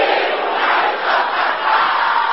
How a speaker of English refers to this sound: Can I hear you shouting this mercilessly and violently? Every evil marital pattern!